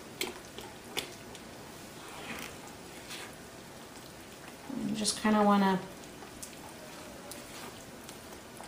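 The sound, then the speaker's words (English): Steady wet, squelching stirring of thick, pancake-like batter in a bowl after water is added, mixed until no lumps remain, with a person talking briefly over the mixing. “mix it to the point where you don't have any more lumps left in there.”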